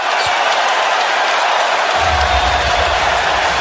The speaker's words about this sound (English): It's good to hear a Chicago crowd buzzing at this time of year. That's right. That was last night on ESPN. I thought the crowd was outstanding.